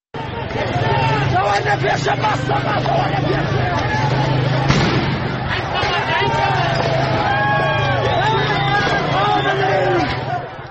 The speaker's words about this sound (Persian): پس از اون در بازگشت فضای شهر مهابات کاملا در واقع به یک جور زد و خورد خیابانی بسیار گسترده تبدیل شد. ویدیوهای منتشر شده به تناوب صدای تیراندازی در اون به آشکارا به گوش میرسه، از جمله این ویدیو که الان صداشو میشنویم.